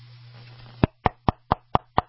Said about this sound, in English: Oh, yeah. Well, that's a knock in the lower part where the oil pan is. I hope you put the right oil in it.